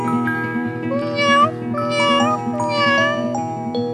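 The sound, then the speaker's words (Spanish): Three drawn-out cat meows, each rising then falling, come at a steady pace over a sustained musical backing of a song about animals. They sound fairly loud, and no one speaks. “Cuando voy por la calle y veo un gatito, me pregunto si ha comido el pobrecito.”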